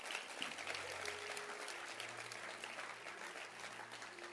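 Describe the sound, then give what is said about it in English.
A church audience claps their hands for their pastor in a dense, steady wash of applause lasting several seconds, with a low hum running underneath and no voices speaking. “Clap your hands for your pastor.”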